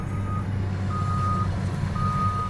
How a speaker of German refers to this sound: Riesige insektenartige Bagger schieben das Erdreich in Trichter.